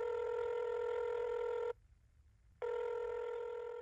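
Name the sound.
telephone dialing and ringing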